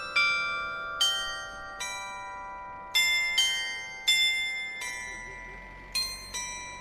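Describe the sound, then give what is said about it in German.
A glass bell tower on a town market square, framed by colourful houses, chimes a well-known German hiking song, each clear, ringing note struck in a steady walking rhythm and left to decay into the next; it plays every two hours during the day. “Umrahmt von bunten Häusern steht dort ein gläserner Glockenturm. Im Zwei-Stunden-Takt erklingt tagsüber eines der bekanntesten deutschen Wanderlieder.”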